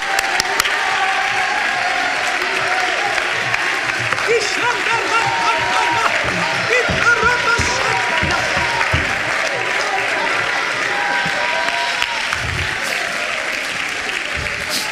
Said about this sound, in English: Come on, if you're glad to be here tonight, stand to your feet. Clap your hands and shout to the Lord.